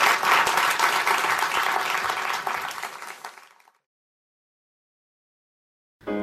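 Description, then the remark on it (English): An audience breaks into sustained applause for a 21-year-old being introduced, a dense wash of many hands clapping that holds steady for a few seconds, then fades out into silence. “So please give him a huge round of applause.”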